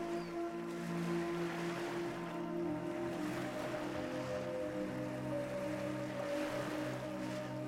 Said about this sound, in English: You can hear the sound of the waves washing ashore as you breathe in deeply and smell the salty air here by the ocean.